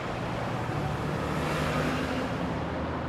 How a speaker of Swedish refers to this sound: så kan vi också berätta att en gång i tiden på 70-talet då fanns det långt gångna planer på att göra Götgatan till gågatan, men det blev inte av med det, utan nu har vi väl, får vi väl säga, en rätt livlig trafik här istället.